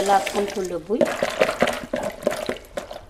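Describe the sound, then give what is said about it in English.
A voice speaks briefly, then splashing and sloshing of water follows in quick irregular bursts as bui (monkey bread fruit) is washed by hand in water at home. “I wash the bui a little.”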